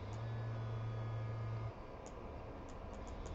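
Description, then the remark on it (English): A steady wash of road traffic rumbles on throughout, with a low droning buzz underneath that cuts out partway and a few faint ticks near the end. No one speaks. “It's kind of weird not to listen to anything but the traffic and the buzzing.”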